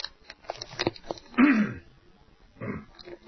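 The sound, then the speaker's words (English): A single harsh throat clearing rasps out, followed a moment later by a softer second clearing, with quiet breathy noises around them and no speech. “Excuse me while I clear my throat there.”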